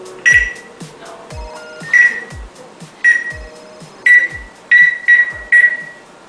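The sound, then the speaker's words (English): A parrot imitates cordless phone dialing tones: seven short, high, electronic-sounding beeps at uneven intervals, the last few coming faster, with soft low thumps in between and no talking. “The bird is making the beeping sound, like he's dialing the phone.”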